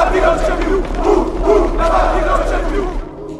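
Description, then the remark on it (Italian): A large crowd outside a newspaper office roars and cheers in unison acclaiming Mussolini, a dense wall of many voices shouting acclaim that stays loud and steady for a few seconds before dropping away abruptly. “Dalle persiane aperte guarda la folla che lo acclama.”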